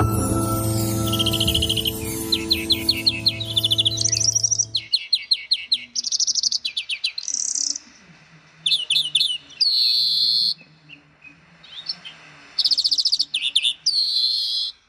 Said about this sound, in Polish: Mogą Państwo sami stwierdzić, czy to brzmi jak dzwonki, czy nie brzmi jak dzwonki? Nie, ja bym... Nie. I nawet taki bym powiedziała, z takich gatunków ten śpiew jest mniej przyjemny niż kos. Tak, mniej przyjemny niż kos, mniej przyjemny niż